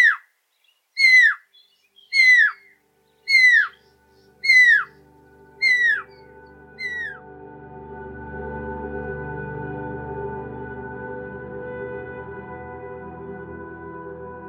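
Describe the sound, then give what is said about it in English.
Seven clear bird calls, each a bright whistle sliding downward, repeat at a steady one-per-second pace and grow fainter. They are played to animals as a completely benign sound. A low, steady rumbling noise then takes over, with no talking. “On the other end of the spectrum, you also want to be sure that you have sounds of something that is going to be completely benign, that the animals will not have to worry about, right?”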